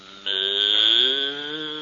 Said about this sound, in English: Get away from that cow. Is that a cow?